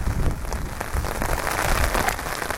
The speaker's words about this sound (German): Es regnet mittlerweile mehr wie vorher zu Urnäsch und es luftet.